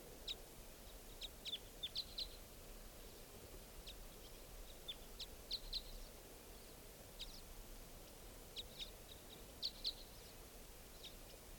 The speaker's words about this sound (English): Either type 3 or type 5 birds are here, and it's 8:08 a.m. Pointed at the type 5. There are 4 birds here, at least.